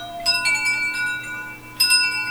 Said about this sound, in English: It's getting windy outside, as you can probably hear the wind chime. Yes, in addition to everything else, there's a wind chime in the recording studio in front of the open window, so that when the wind blows in, the wind, yes, we are not noise-free